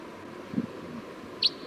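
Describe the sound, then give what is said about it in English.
A single short, high-pitched chip of a wild crossbill call from down the hill rises briefly above a quiet, steady background hum, with a soft low thump shortly before it. “Sounds like there was a wild crossbill down the hill.”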